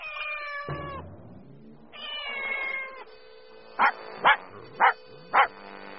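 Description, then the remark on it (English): A cat gives two drawn-out, wavering meows, then a dog barks four times in quick, evenly spaced, sharp bursts. Both are fairly loud, with no talking. “A lot of fish for the cat and the dog.”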